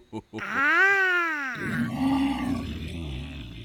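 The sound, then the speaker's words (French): A loud, drawn-out roar of about a second, voiced by a person imitating the tiger character in a story, rising then falling in pitch, followed by someone talking in a low, growly voice. “T'es qui, toi? Je suis le tigre.”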